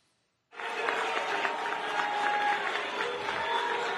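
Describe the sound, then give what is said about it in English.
A large crowd at an FDNY event in a house of worship boos New York Attorney General Letitia James loudly and steadily. It is a dense wall of voices that starts abruptly after a brief silence and holds without letup. “Brian, remember last week when New York Attorney General Letitia James was booed at that FDNY event?”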